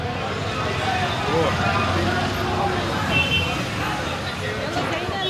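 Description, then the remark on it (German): Busy main street traffic in the old town of Baghdad, Iraq, lined with market sales stalls, rumbles steadily, with engines, a dense crowd murmur of indistinct voices, and a brief car horn sounding partway through amid the constant roadside din. “Von der hektischen Hauptstraße voller Verkaufsstände und hupender Autos geht es in eine kleine, enge Seitengasse.”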